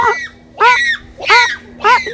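The bonobo Kanzi calls four times in quick succession, communicating that there is something down in a hole: loud, high-pitched, harmonic hoots with a honking, goose-like quality, each bending up and down in pitch, separated by short pauses.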